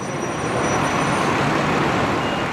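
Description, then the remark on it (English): A bus pulls up, its engine rumbling with a steady, loud roar and broad road noise for a few seconds, with no voices. “Now just imagine, as the bus pulls up, there you are with your mates, your bags packed, and you're going to spend a few days at a camp by the sea, somewhere you've never been before.”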